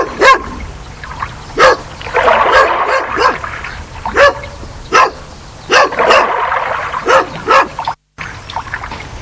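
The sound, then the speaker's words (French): A dog at a swimming pool barks repeatedly in short, sharp bursts at an uneven pace, fairly loud, with a steady watery splashing or trickling noise underneath. “Le chien adore ça.”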